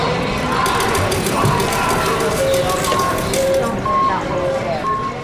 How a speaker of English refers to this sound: Just getting to this workshop required I run the auditory gauntlet of the Reno, Nevada airport with its slot machines, canned music, and crowds.